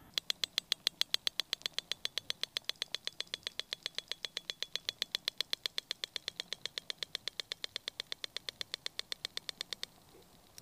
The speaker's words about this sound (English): No, that's not the clock from 60 Minutes at the beginning of the show. This is the sound of a narwhal.